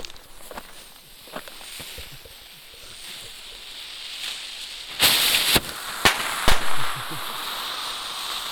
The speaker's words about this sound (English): Black cap banger candles. Explosion with report.